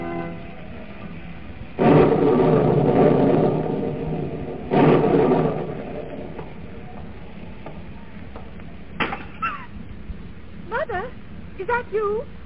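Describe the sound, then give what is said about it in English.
A storm sound effect with two loud, broad rumbling bursts like thunder close together, fading into a low steady roar, followed by brief voices near the end. “Is the storm frightening you?”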